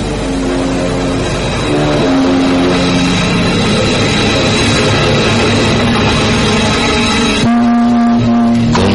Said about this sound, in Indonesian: Itu berbunyi lagi. Itu berarti suara maut. Maut telah ada di sekitar telaga angker ini. Ngapa gong tua itu berbunyi sendiri? Suara bunyi gong itu menandakan bahwa sesuatu telah terjadi di telaga angker ini.